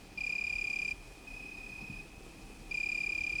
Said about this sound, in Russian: В степи печально посвистывали суслики, в листве винограда дрожал стеклянный стрекот кузнечиков.